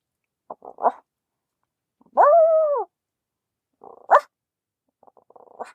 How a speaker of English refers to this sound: There's obviously a dog bark.